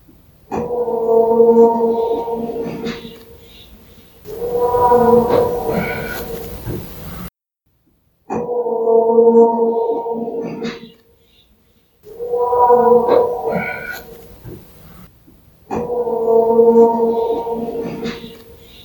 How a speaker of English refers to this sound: Typically, these mystery howls are easy to write off as a coyote, elk, bobcat, or some other benign wildlife. But this one is different. It's deep, forceful, and gut-wrenchingly mournful. But does that make it a Sasquatch?